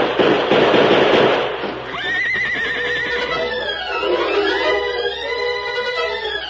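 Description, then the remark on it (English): A burst of noisy rumble gives way to the horses of a gang of riders on a trail neighing, high wavering whinnies rising and falling over several seconds as they stop, fairly loud with no talking. “I don't hear any horses. There they are.”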